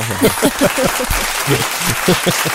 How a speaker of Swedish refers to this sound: Kan man få en sån liten applådjingel här nu?